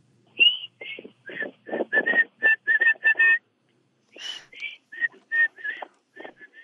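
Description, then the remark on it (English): A caller whistles an imitation of a bird call they want identified: a clear run of short, rhythmic whistled notes in two phrases separated by a brief pause, with some breathy noise. “I wanted to know what species of bird or what kind of bird has a call like this. I'm going to try to whistle it to you.”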